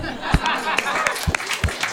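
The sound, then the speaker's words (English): An audience at a panel event claps, asked to applaud if they have ever had sex: a dense, steady patter with a few sharper slaps standing out, mixed with scattered chuckles and murmurs, fairly loud throughout the two seconds. “So if you've ever had sex, please, a round of applause.”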